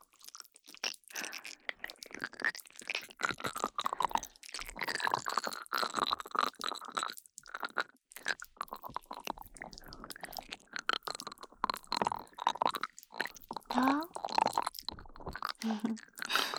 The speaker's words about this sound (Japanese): 炭酸泡とスライムをサンドイッチした音、パチパチってすごい音でしょ。